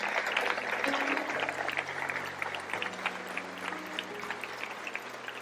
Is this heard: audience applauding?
yes